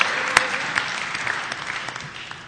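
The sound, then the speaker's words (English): An audience breaks into applause for UU Church of Berkeley for getting a visitor, a dense steady patter of many hands clapping with a few sharper claps standing out, sustained at an even level with no voices over it. “Let's get UU Church of Berkeley a round of applause for getting a visitor in the house.”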